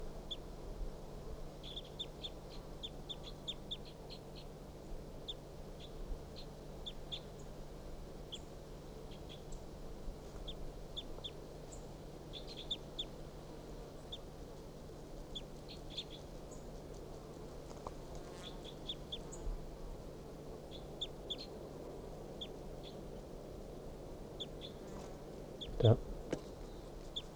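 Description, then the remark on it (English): A male wild bird, perched low in a pine tree and looking down at decoys, calls in soft, high chirps, repeated irregularly throughout over a steady low hum and faint hiss, with one sharp click near the end. “Start recording the wild bird.”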